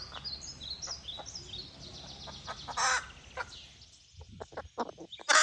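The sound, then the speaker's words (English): A crow that lives with chickens cackles like a hen, a run of sharp clucking bursts that grows louder toward the end, with faint bird chirps twittering in the background early on. “one of the few crows in the world that can cackle like a chicken”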